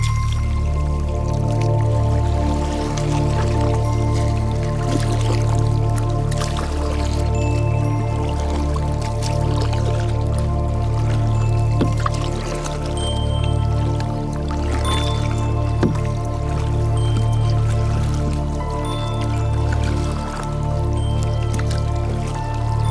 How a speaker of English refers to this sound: paddles out into the Port River to discover that Torrens Island has a dark past.